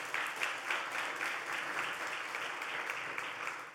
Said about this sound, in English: And I wasn't sure if y'all clapped for Isaac or not, but I mean, not like I'm wanting to make you clap or anything, but I was kind of caught up in the moment.